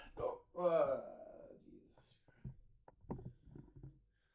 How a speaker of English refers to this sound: Got hiccups. Really annoying.